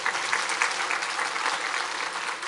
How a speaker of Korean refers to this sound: 박수 한번 쳐요. 네.